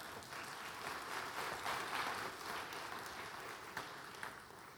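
An audience claps steadily for several seconds as the speaker's wife comes forward. It is a dense, even wash of hand claps at moderate loudness, with a few sharper individual claps standing out near the end.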